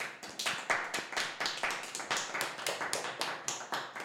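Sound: audience applauding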